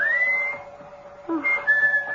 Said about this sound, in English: whistling for you. Answer it, dear. Go on.